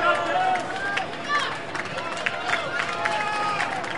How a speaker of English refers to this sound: Really good crowd tonight in Amarillo.